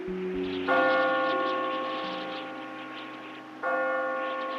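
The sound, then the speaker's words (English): A loud bell at Melbourne Observatory rings out twice at 11:30 a.m. on 9 December 1874, signalling to assembled observers that Venus was about to transit the Sun; each strike is sharp with a long, shimmering decay, the second about three seconds after the first, no voices present. “on December the 9th, 1874, a loud bell rang at Melbourne Observatory, signalling to the assembled observers that Venus was about to move onto the face of the Sun for the first time since Captain Cook had seen it 105 years earlier.”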